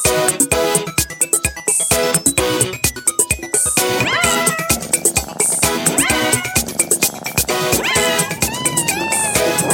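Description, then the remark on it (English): Bouncy, playful music made for Lego's social media, with a steady beat, laced with repeated cat meows that rise and bend in pitch over the melody, loud and up front throughout. “They said, can you make it annoying and with cats? And I said, I can do half of that and I can definitely work on the cats part.”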